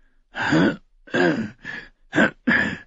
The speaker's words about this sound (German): Großmeister Pucelle räusperte sich.